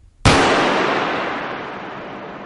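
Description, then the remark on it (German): A single sharp, loud bang like a gunshot opens a musical piece, cracking out after a brief moment of near-silence, then leaving a long, bright noisy wash that slowly fades. “Und letztlich da der Garten aus diesem Schuss oder aus diesem ganz kleinen Punkt heraus wächst und sich dann dabei ausbreitet.”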